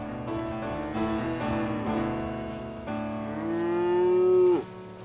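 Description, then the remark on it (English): Cattle mooing loudly out in the open, several long, drawn-out lowing calls one after another, the last swelling louder before cutting off abruptly. “We're out in the open with our horses, our cattle, and our dogs, and our friends, and our family.”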